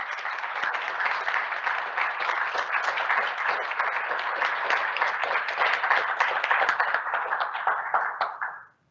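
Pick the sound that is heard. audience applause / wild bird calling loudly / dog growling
audience applause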